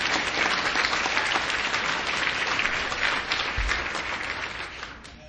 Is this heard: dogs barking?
no